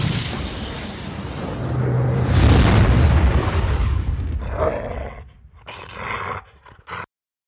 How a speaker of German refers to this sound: Der erste Einschlag reißt eine metertiefe Furche in den Schotterweg. Der zweite Einschlag teilt das im Dunkeln geparkte Auto von Front bis Heck glatt in zwei Hälften.